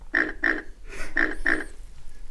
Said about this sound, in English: That's right. This is the pink pig.